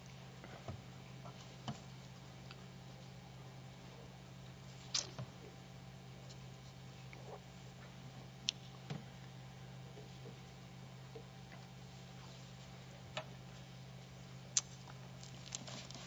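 Bible pages turning as people look up Galatians chapter 4: soft, scattered rustles and light clicks at irregular moments, heard faintly over a steady low hum, with no one speaking.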